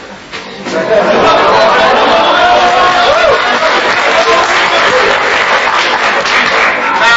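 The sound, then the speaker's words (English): An audience of Muslims and Christians bursts into loud, sustained clapping mixed with laughter and excited chatter, the Muslims clapping and the Christians laughing, a dense wall of crowd noise rising after the first second and holding steady to the end. “You know, the Muslims are clapping, the Christians are laughing, the Muslims believe and the Christians don't believe.”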